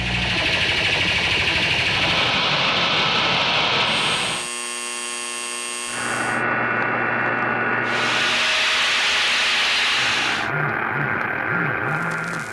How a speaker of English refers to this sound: Just Noise from Sound Ideas. 140 tracks of vintage media noise, static, buzz, and hum. Just right when you need authentic background crackle, whine, fuzz, or hiss.